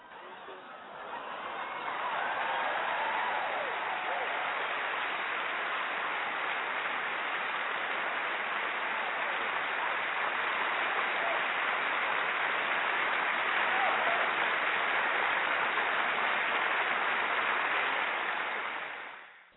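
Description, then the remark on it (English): Sustained applause from many hands for a performer after a spoken piece, a dense crackling roar that swells in over the first couple of seconds, holds steady and loud for most of its length, then falls away at the end. “And we definitely want to clap it up for you for that.”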